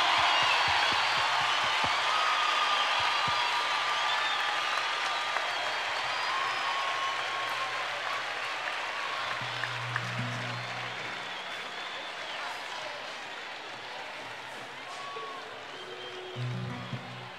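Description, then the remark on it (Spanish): A large crowd applauds a singer invited on stage to sing a song, a dense wash of clapping that stays loud throughout and tapers slightly toward the end, with a few low hums and murmurs underneath. “Por favor, un aplauso gigante como su corazón y como su voz.”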